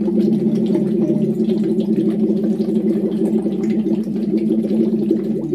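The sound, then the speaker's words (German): A loose, relaxed voiced 'oo' (U) is hummed through a tube into water as a voice-training exercise. It produces continuous loud bubbling and gurgling over the sustained low tone, unbroken for several seconds with no talking. “Und wenn man eben die Stimme dabei trainieren will, dann spricht man ein lockeres, entspanntes U in den Schlauch.”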